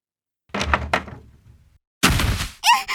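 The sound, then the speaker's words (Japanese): A few muffled wooden knocks, then a loud thud as two people bump into each other at a bathroom door off the entrance hallway as one opens it to go in, followed by a second sharp impact. No talking. “ぶつかってしまう。”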